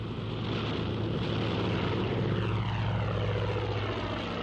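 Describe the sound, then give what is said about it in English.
The propeller engine of the Mozzie aircraft, flown by Biggles, starting up, runs with a loud, steady, throbbing drone, its low humming tones holding even throughout with a rough, breathy roar on top. No one speaks. “I shouldn't think so, but that's the Mozzie starting up.”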